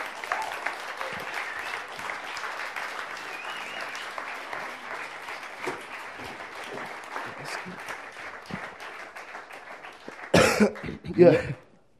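An audience claps steadily for about ten seconds, a dense, even patter of many hands, which then fades out and is followed by a couple of brief, louder bursts that sound like coughs.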